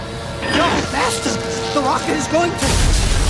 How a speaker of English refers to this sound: An explosion rips through the lab.